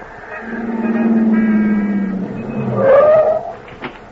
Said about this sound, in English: You rush out after her, but she disappears into a waiting car and drives off.